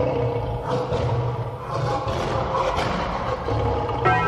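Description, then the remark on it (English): A human voice mimics a lion's roar, loud, with a rough, sustained growl that swells and dips across several seconds without a break. “raw, raw like a lion”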